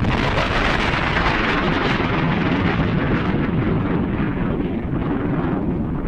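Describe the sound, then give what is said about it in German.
A steady, forceful rush of breath as someone blows over the top of an ordinary sheet of paper, a loud roaring hiss that lasts throughout without pause. “Also, dies hier ist ein stinknormales Blatt Papier und ich puste oben drüber.”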